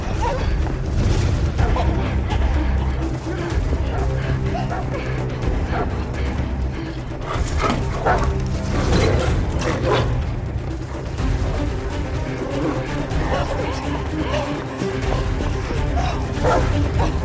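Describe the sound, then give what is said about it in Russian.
A huge dog barks repeatedly and aggressively, loud, over a dense, rumbling wash of noise with heavy booming thuds, as it chases Matthew and Anna, who run as fast as they can. “Огромная собака преследует Мэтью и Анну.”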